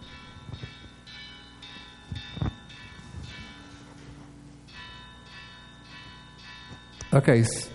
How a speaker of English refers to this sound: Oh, that's the lunch bell. I'm sorry.